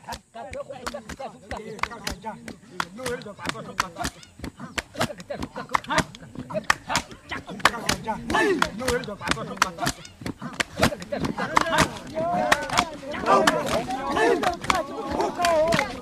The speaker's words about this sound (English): Two rows of indigenous people sit on the ground facing each other, chanting and clapping their hands and bare thighs.